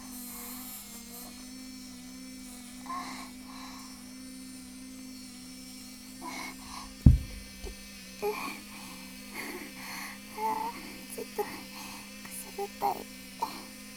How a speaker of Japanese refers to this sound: バイブ入れました。